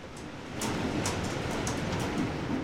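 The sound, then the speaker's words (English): Steady hissing rain on a metal roof during a short storm burst in Arizona, broken by a handful of sharp, irregular pings of hail striking the metal. The downpour swells slightly partway through, and no one speaks. “I think it sounded like some hail hitting that metal, the little it's metal really roof over there.”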